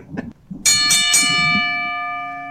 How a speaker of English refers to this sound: ring the motherfucking bell